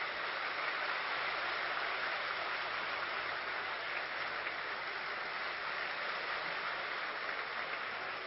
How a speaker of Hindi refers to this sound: आज का दिन है खुशियों का दिन, प्लेटिनम जुबली मनाने का दिन, बाबा की प्लेटिनम जुबली। और जोर से ताली बजाएंगे।